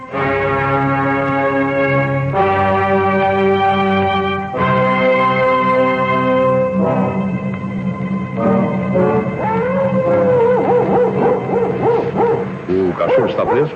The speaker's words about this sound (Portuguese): É um cão policial deste tamanho, muito brabo.